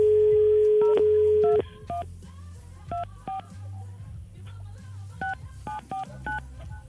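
A steady dial tone gives way to a quick series of beeping touch-tone keypresses, clear, dialing a phone number to call a girl, over a low background hum.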